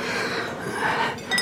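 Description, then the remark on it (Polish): Glasses clink together in a toast, a short bright chime with a ringing tail near the end, over a hum of room noise and soft breathing; nobody speaks. “No, wypijmy wreszcie. Wypijmy za to.”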